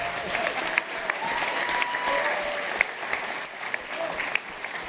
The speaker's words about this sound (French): Et ça s'applaudit.